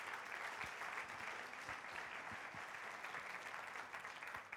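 An audience claps steadily for a woman coming forward to share her experience, a dense, sustained wash of many hands applauding at an even level for several seconds with no speech over it.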